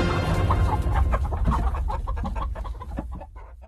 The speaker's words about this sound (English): They went to bed quite early and slept soundly until daylight, when they were awakened by the crowing of a green cock that lived in the backyard of the palace and the cackling of a hen that had laid a green egg.